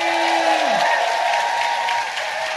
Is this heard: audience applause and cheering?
yes